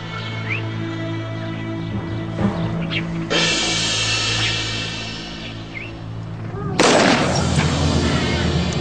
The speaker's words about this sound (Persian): گفتم شلیک کن داوود. زود باش. فکر میکردم نشونه گیرید بهتر از این حرف هست. دوباره بزن.